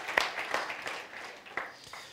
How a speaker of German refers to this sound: Super, ja, ein Applaus für die Leute da hinten. Wunderbar.